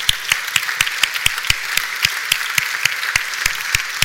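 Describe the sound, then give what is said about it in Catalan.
An audience applauds the author of the Corpus 2023 poster, steadily and loudly, with dense overlapping clapping and a few sharper claps standing out at a regular, rhythmic pace throughout. No one speaks. “Doncs ja tenim el cartell de Corpus 2023 i volem donar un fort aplaudiment al seu autor,”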